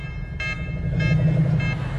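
Three evenly spaced electronic beeps, each short and buzzy, repeat about every half second over a steady, loud low hum from an overloading explosive device, with no voices present.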